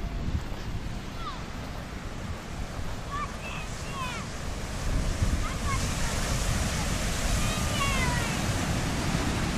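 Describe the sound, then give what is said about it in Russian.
Ocean waves break on a sunny shore near a Stanford University laboratory, in a steady, rumbling wash of surf that swells slightly midway, with faint chirping birds audible over the roar. “Ну, давайте поближе подойдем к воде.”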